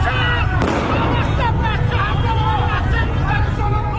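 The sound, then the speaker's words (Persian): A single sharp gunshot, fired by security forces in the Narmak neighbourhood of Tehran, Iran, cracks out early on, cutting through a loud, dense crowd of agitated voices and shouting that continues throughout. “تصاویری که از خیابانهای ایران منتشر می شوند پر هستند از صدای گلوله و جراحت ساچمه هایی که در بدنها فرو رفتند.”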